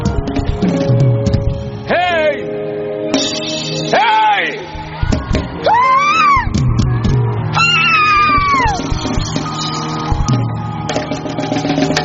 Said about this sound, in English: Give him a shout of victory. A louder shout.